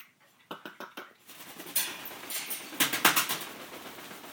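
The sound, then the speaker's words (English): A female pet bird named Lily Bird in her cage makes a quick series of sharp clicking sounds, then louder, bright, scratchy chirps and squawks in short bursts, with no one talking. “She almost made that noise.”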